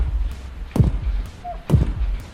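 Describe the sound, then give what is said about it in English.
Two heavy, booming footfalls descending the stairs of a stairwell in a video game land about a second apart, with a low rumble underneath and a brief faint tone between them. “There's a stairwell. Ascend. Stairs. Crank up. Descend.”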